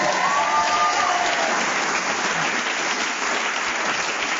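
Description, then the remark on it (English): A single sustained whistle blast lasting about a second ends a round of a panel game as a contestant is still speaking. It sounds over a burst of audience applause, and the clapping carries on steadily after the whistle stops. “So, Graham Norton got many points in that round, including one for speaking as the whistle went, and he has leapt forward and he's now in a very distinctive lead.”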